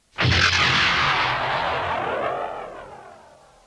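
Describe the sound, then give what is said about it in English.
Explosive latches fire with a sudden loud blast as a life pod ejects from a crippled fighter, followed by a roaring, swirling whoosh that slowly fades over a few seconds. No voices. “The smaller robot flipped a series of switches, and with the thunder of explosive latches, the life pod ejected from the crippled fighter.”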